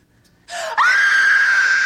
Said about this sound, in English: Well, who was screaming? Me. You want me to show you how? For the camera? For history?